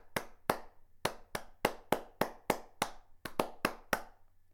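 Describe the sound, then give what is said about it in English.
A single person claps with flat palms together, about a dozen sharp slaps in a steady rhythm with a brief pause partway through, each crack bright and decaying quickly. “Hand claps when you have the hands palms together.”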